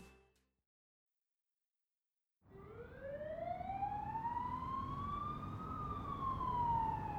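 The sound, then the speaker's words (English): After a brief silence, a loud emergency siren swells in, its tone sliding steadily upward over a constant low rumble of traffic or engine noise, then dipping slightly near the end. “Sirens.”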